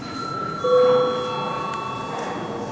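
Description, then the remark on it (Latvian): A parliament voting bell rings before a vote, a steady electronic tone that swells after a moment and holds for a couple of seconds over a faint murmur. “Lūdzu zvanu.”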